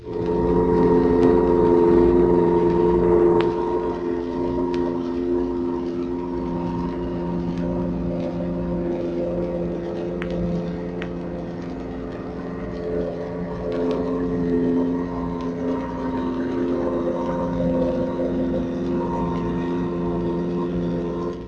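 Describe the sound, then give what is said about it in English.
An American Mark 14 turbine torpedo running at 45 knots, a steady, continuous mechanical drone with strong tonal hum and whine from its high-speed motors, holding fairly even in loudness throughout with no voices. “Here is an American Mark 14 turbine torpedo at a speed of 45 knots.”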